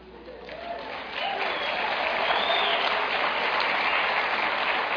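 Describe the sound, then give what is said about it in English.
An audience at a church service claps after mention of the National Day of Prayer, a dense wash of many hands that swells after the first second and holds loud and even to the end, with faint voices mixed into the crowd noise. “That means everyone who clapped will show up.”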